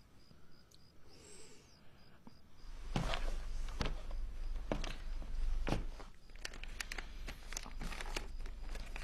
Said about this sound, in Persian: این کاغذ رو میبینین؟ بله میبینم. یکی یکی برشون دارید.